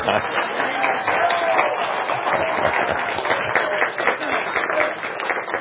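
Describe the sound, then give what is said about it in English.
A steady wash of crowd applause, dense and unbroken for several seconds at an even, fairly loud level, with a murmur of voices mixed into the clapping. “He was expecting some applause there.”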